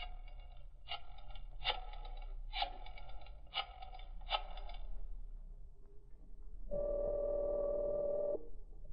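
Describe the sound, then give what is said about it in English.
A telephone is dialed to call Carl: five evenly spaced clicking bursts, each a quick rattle, then a pause and a steady electronic tone from the line for about two seconds. No one speaks. “Carl's phone number must be here someplace.”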